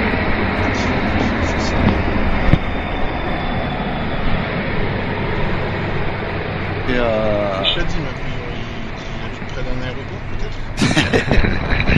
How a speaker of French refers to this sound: Presque, c'est un tramway qui vient de passer, je suis devant en train de fumer la clope.